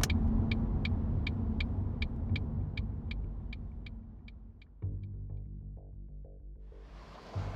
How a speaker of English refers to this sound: Halfway there, I realized I'd forgotten my makeup bag. Damn it. And reluctantly turned the car around.